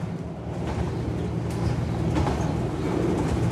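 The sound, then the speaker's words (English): A steady, continuous rumble of a train rolling along the tracks past green fields, heard from inside, with dense low-end noise and faint rattling throughout, no voices. “As the train makes its way, green fields flash by the window.”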